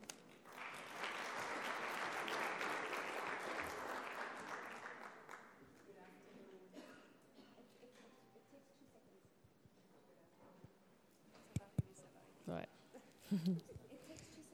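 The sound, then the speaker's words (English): An audience claps in a dense, steady burst of applause for about five seconds, welcoming the acting director of the Social Protection Department to the stage for her opening statement, then it fades to quieter scattered sounds and a few sharp knocks. “Please can we give a round of applause”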